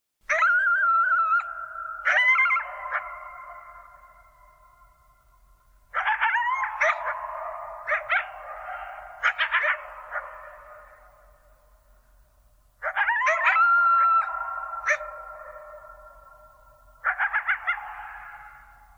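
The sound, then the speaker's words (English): Two coyotes howl and yip back and forth in three loud bursts, wavering high cries breaking into sharp yelps, with quiet pauses between and no talking. “there's not one coyote, but there are two. And they're singing to each other after a long season of prosperity.”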